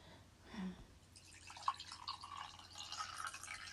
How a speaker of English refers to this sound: Kettle's boiled now, that's good. Now I need to fill this hot water bottle with the water.